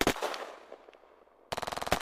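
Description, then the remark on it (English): A loud gunshot blast rings out and fades, followed by a rapid burst of automatic gunfire, a quick string of sharp, evenly spaced shots, as a man is shot down with bullets hitting his arm and legs. “But he gets shot down as a few bullets hit his arm and legs.”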